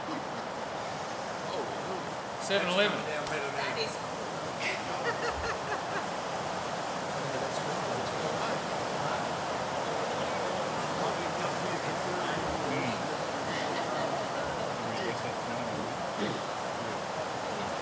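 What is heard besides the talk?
heavy rain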